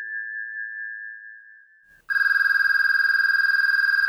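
A steady electronic tone holds for about two seconds, then a loud, rapidly trilling telephone ring takes over, buzzing continuously with no voices.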